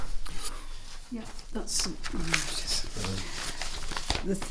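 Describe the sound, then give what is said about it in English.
Papers rustle and crinkle in a series of short, crisp bursts, continuing beneath a man's voice as he speaks briefly. “the legally rustling of papers.”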